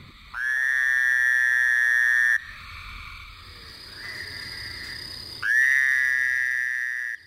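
Two loud, nasal buzzing trills from a Fowler's toad calling in early summer, each lasting about two seconds, with a quieter steady insect-like hum filling the gap between them.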